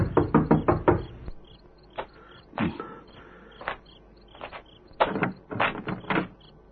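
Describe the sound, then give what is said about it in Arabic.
Someone raps on a wooden door at nightfall in several clusters of sharp knocks, a quick run of four or five, then scattered single and double knocks, ending with another rapid series. No voices. “الذي يطرق الباب في أول هذا الليل؟”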